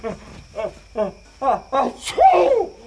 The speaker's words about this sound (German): zieh Herrn Hotzenplotz die Bettdecke über den Kopf. Er niest gleich wieder.